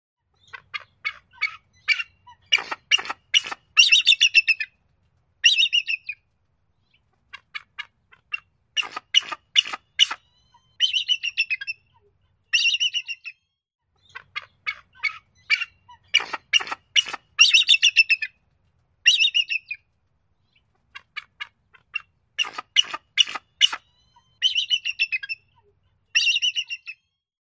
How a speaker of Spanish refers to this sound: Bueno, si pensaron o se dijeron entre ustedes que era un águila calva o de cabeza blanca, están en lo correcto.